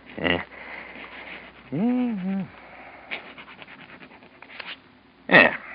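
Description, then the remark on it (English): A pen scratches across a piece of paper in short, uneven strokes as someone writes their name, with sharper scrapes at the start and end and a brief wavering vocal murmur in between. “Here, now, use my pen. Hmm? Go on, now. Write your name on this piece of paper.”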